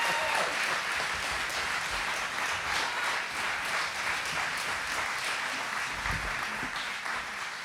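A crowd applauds steadily for several seconds, a dense wash of many hands clapping at once, fairly loud and sustained without any talking over it.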